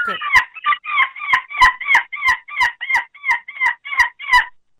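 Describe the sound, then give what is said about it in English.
A child's voice on a phone call imitates a seagull with a quick, steady run of about a dozen sharp, high yelping cries, each clipped short, with no other sounds around it. “will you finish the call off with a seagull call impression?”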